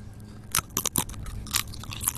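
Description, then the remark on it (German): Potato chips being crunched, a handful of sharp, crackly bites in an uneven rhythm with softer chewing between them. No one speaks. “der sich fast den Chips ins Auge gestochen hat beim Reinschieben.”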